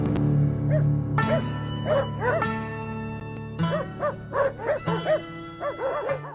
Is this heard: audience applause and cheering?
no